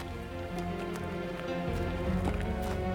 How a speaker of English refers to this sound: Footsteps. Two women in the cold clearness of the slanting light. Two veiled women who are walking in my direction.